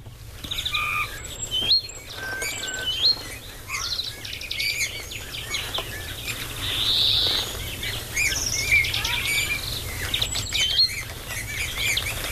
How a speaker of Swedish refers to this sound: Intressant läte. Ja, det här är ju talgoxe och grönfink också, men det är det här sakta pratande och djuande som är domherrens läte. Alltså domherren, där var grönfinkens drill, men domherrarna har mycket anspråkslös sång